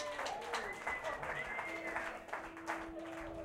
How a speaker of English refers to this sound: Let's have a round of applause for everybody who's alive.